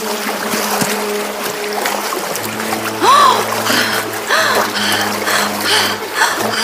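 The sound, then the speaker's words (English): Oars dip and splash through water at a steady rowing pace as a boat is rowed as fast as possible, each stroke a soft wet burst over a constant watery wash, with a low hum and a few faint creaks. “Fairies and elves jumped back to their boat and rowed as fast as they could”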